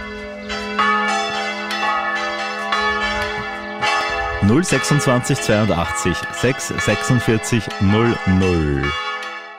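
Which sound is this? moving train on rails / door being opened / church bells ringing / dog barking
church bells ringing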